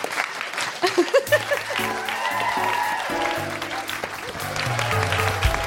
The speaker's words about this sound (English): Yes, yes. That should be applauded. Thank you.